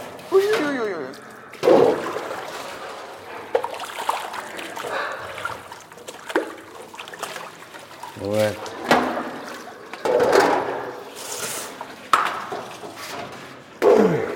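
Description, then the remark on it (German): Water being poured and splashed in short, intermittent bursts as the water in a bird cage is changed, with small clattering knocks between them and a voice murmuring quietly to the birds in the background. “Nur das Wasser. Nur das Wasser.”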